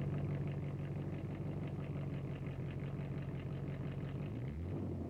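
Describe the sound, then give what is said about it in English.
A car engine with STP added to the oil idles steadily, a low, even rumble with a faint rhythmic pulse, dipping slightly in pitch near the end. No one speaks. “Listen to that engine idle.”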